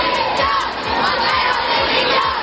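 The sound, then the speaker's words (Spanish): A large protest crowd at a feminist movement demonstration in Madrid shouting rhythmic chants of "Montero dimisión" together, loud and dense, with repeated pulsing beats in the chanting and a constant roar of many voices. “En este contexto, esta pasada tarde se han escuchado gritos de Montero dimisión en la manifestación convocada por el movimiento feminista en Madrid.”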